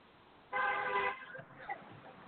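A single loud car horn honk lasting about half a second, sharp and steady, rising out of low background noise before fading back to faint ambient sounds.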